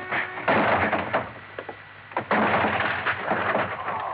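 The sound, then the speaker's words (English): A locked office door is forced open: loud, heavy banging and splintering crashes, several rough bursts of strain and impact over a few seconds, with no one speaking. “The door of it was locked. Brothers, open up. Brothers. Okay, then I'll open it.”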